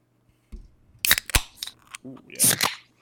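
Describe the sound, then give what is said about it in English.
A can of Truly lemon tea malt beverage cracks open: a few sharp metallic clicks, then a brief, loud fizzing hiss of escaping carbonation, with a soft vocal murmur between them. “But all right, let's crack it open.”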